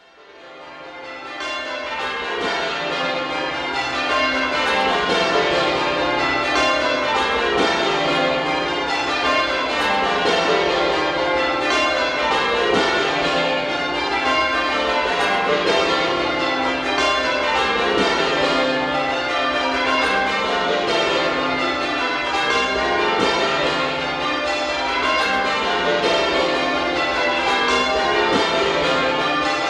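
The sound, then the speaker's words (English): A full peal of a ring of twelve church bells at the parish church of Our Lady and St Nicholas, Pierhead, Liverpool, rings Stedman Sinks in a steady, rapid change-ringing pattern, loud, with overlapping tones from high trebles down to a deep 41¾ hundredweight tenor tuned to C; bells cast by John Taylor and Sons of Loughborough, installed 1952. No voices. “We're going to hear them now ringing Stedman Sinks.”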